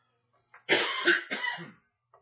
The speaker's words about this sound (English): Excuse me, I'm still coughing from my affliction.